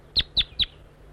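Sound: wild bird calling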